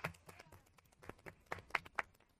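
A short burst of applause from a small group, with dense, uneven hand claps that build to a few sharper, louder claps before tapering off. No one speaks.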